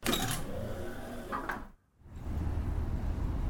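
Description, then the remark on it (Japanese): An automatic glass sliding door at the entrance of a fairly new building runs open with a steady, low motor hum and a couple of brief rattling bursts as its large glass panel faintly shakes, dropping to a short lull before the mechanical drone resumes. No one speaks. “私はもう一度入り口に向き直り、ビルの中へと進みながら自動ドアの音を意識してみた。”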